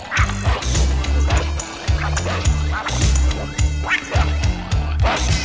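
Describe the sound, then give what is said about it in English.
A small dog named Snuggles barks and yips over and over in quick, sharp bursts, fairly loud, with a steady low hum running underneath. “He was a little dog named Snuggles.”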